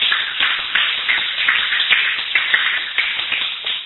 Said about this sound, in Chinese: 大家这里掌声欢迎